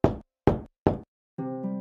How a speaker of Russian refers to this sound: Раздался стук в дверь.